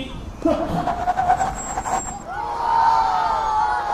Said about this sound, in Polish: Rozpędzą się samochody, będą musiały zahamować i...